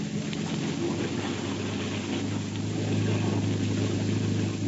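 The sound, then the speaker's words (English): A motorboat engine drones steadily at low speed as the boat moves in slowly, a constant throaty hum with broad churning noise above it, loud with no one speaking. “Let's move in, but slow.”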